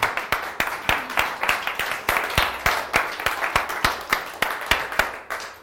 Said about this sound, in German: Steh mal kurz auf und klatsche Jesus einen Applaus und dann machen wir weiter. Halleluja.